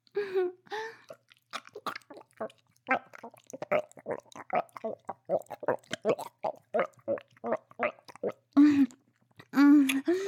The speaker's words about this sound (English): I can tell you like these sounds. I can feel you throb with every slurp and gag.